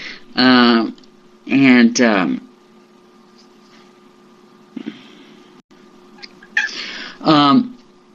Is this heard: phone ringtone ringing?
no